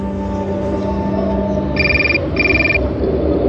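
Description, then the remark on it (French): A mobile phone rings in two short electronic trill bursts, clear, over a steady rumbling outdoor background of wind with no talking; the call is from an office in Paris. “Vous entendez mon portable? C'est mon bureau qui m'appelle de Paris.”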